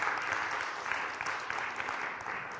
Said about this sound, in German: Also dürft euch allen mal einen Applaus geben hier für die vielen Dienste, die ihr habt.